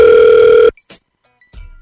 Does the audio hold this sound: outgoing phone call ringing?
yes